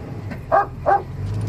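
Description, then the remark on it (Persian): Two short, sharp barks in quick succession from a dog shut inside a car, looking out the window, over a steady low rumble like an idling engine. “سگ از پشت پنجره به نوری نگاه میکنه.”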